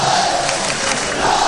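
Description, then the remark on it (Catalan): Sabadell football fans chanting "Sabadell, Sabadell" at the Johan Cruyff stadium, a loud, steady wall of massed voices holding a sustained tone, with no single speaker standing out over the brief stretch. “Crits de Sabadell, Sabadell, escolteu el Johan Cruyff.”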